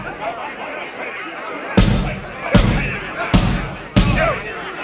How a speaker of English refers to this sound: While the man pounded in fury against the heavy wooden doors, the men, the women, and children quickly climbed down the ancient stone staircase.